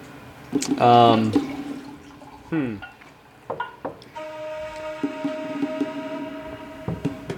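Wine glugs into a glass in a short pour in a cabin, its pitch rising as it fills. A briefer second pour trickles a moment later, then a faint, steady hum lingers.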